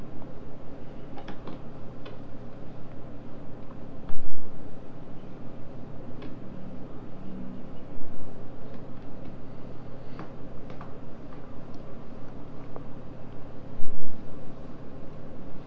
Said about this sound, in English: Ding, ding, ding. You bang your little buckle and strap on the leg of the high chair.